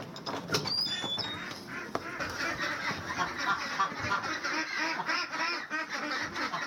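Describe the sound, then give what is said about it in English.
A flock of pastured ducks quacks continuously in a dense, overlapping chorus outdoors at 7 o'clock in the morning on a ranch in Vintondale, Pennsylvania, as the ducks are let out. A few high bird chirps sound near the start and no one speaks. “It's 7 o'clock in the morning and time to let the ducks out.”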